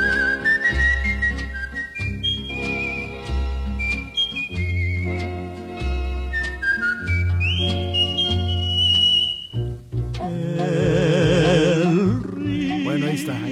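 A clear whistled melody glides through a slow, sustained tune over soft instrumental accompaniment with steady bass notes, then gives way to a fuller, warbling passage near the end.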